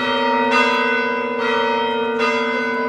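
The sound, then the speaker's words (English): Church bells in Ukraine ring out loudly after an air-raid alert clears, struck about once a second with rich, overlapping tones that hum and linger between each peal. No voices are heard. “Soon, the alert clears and the church bells begin to sound friendly again as people thin out underground.”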